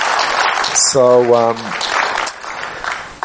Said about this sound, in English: And so he deserves a great big applause. On zasługuje na duże oklaski.